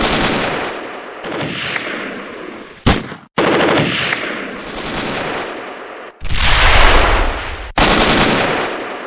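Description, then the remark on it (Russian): Sustained bursts of automatic gunfire rattle on loudly for several seconds, broken by a few sharp, louder cracks and brief gaps, with dense rapid shots filling the whole stretch and no voices. “Огонь на поражение!”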